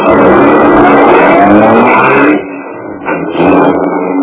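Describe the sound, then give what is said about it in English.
A car engine revs loudly and steadily, dips briefly after a couple of seconds, then roars up again as the vehicle pulls away. No one speaks. “I drove my car out beyond the city limits, put it in a public garage”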